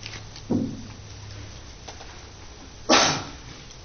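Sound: sneeze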